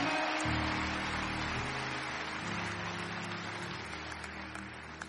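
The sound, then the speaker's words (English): An audience applauds itself in a dense, steady wash of clapping that slowly tapers over several seconds, with low sustained musical tones humming underneath. “Give yourselves a round of applause for your kindness and your goodness toward me.”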